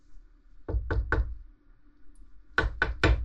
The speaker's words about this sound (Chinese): 哎，有人敲门吗？ 是。会是谁呢？这可是独立病房。